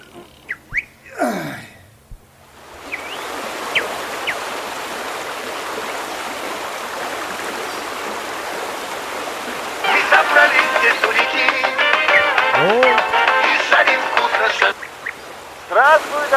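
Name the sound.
flowing river water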